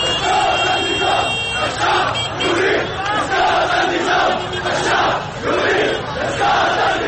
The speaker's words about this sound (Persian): صدای معترضان رو میشنیدیم.